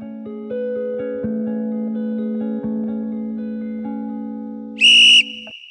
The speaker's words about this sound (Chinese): 早上6:20吹哨，6:40要集合，但20分钟不够，因为我们每个人都要叠豆腐块，之后再带队站到走廊里面，吹一声哨就是下一队要该带下去了。